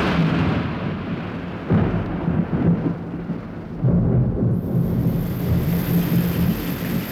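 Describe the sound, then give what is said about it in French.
Steady, heavy rain hisses loudly throughout, with deep rumbling swells underneath that suggest a storm. No voices are heard. “Tiens, là, la pluie.”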